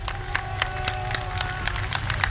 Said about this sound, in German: Nach der Trauerfeier wurde der Sarg im offenen Papamobil durch das Zentrum von Rom gefahren. Rund 150.000 Menschen säumten die Straßen, schätzen die Behörden. Und auch auf dieser Fahrt war immer wieder Beifall zu hören.